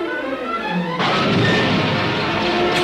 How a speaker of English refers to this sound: Star Wars text in the background and zooming, and it's only voiceover of the guy and then like TIE fighter explosions, and that's the entire trailer.